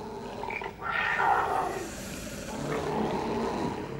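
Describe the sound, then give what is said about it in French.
Tigers roar angrily, a loud, sustained snarling with rough growling surges that swell and overlap across the whole stretch, no speech present. “sur laquelle les tigres hurlent de colère.”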